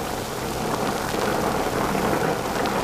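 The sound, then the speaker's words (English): Heavy rain pours down steadily, a dense, continuous hiss of drops striking surfaces, with no voices and a faint low rumble underneath. “Can't see a thing in the rain.”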